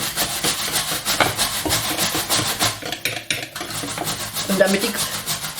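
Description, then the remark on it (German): A utensil scrapes steadily around a bowl, stirring coconut fat drop by drop into a thick, creamy mixture in quick, repeated strokes with a soft rasping texture, fairly loud throughout and with no talking. “Und langsam tropfenweise das Kokosfett unterrühren, dass sich das immer schön in die Schüssel bindet.”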